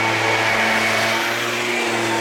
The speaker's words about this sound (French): L'avantage du scooter, c'est qu'on l'entend toujours, qu'on le voit ou pas.